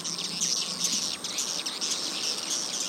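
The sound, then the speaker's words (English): A dense, continuous wash of high-pitched swiftlet chirps and twittering, loud and steady throughout: recorded swiftlet calls blasted from speakers attached to a concrete swiftlet-farming building to lure the birds, with a slightly harsh, electronic edge. “Would-be swiftlet farmers blast the calls from speakers attached to the building.”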